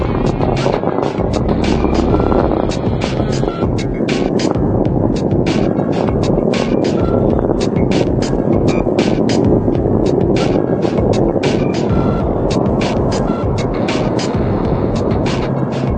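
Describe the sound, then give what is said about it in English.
A deep, continuous rocket-engine roar, loud and steady with crackling bursts, from Space Shuttle Discovery's engines throttling down through maximum pressure during launch from Kennedy Space Center toward the International Space Station, about 1.5 miles up and 7 miles downrange. “Discovery's engines are throttling down as the orbiter passes through the area of maximum pressure on the vehicle.”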